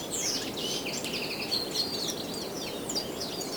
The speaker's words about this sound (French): Une brise venteuse, un chemin, des arbres, des oiseaux.